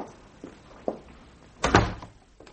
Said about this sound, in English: I knew it was you as soon as I heard your footsteps.